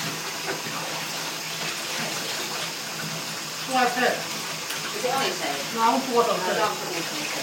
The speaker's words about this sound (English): Just when you pour water on. Rinse.